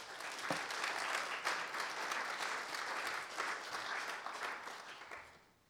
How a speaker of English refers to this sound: If you'd like to give them a round of applause, please.